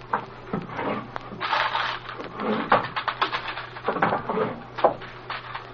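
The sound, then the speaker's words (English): Two people busily rummage through the drawers of a desk, one taking the left drawers and the other the right: wooden sliding and scraping, papers rustling, and irregular knocks and clatters of objects shifted about, moderately loud throughout with no talking. “Yeah, I think we better get going through these drawers in the desk, though.”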